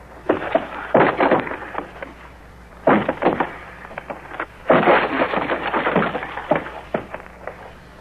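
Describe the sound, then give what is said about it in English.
A door is forced open in loud bursts of heavy thuds, rattling and splintering wood, with three rough clusters of impacts and scraping separated by short pauses. “Stand back. I'll force the door.”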